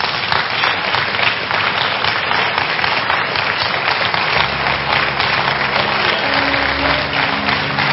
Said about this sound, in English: Clap for Jesus.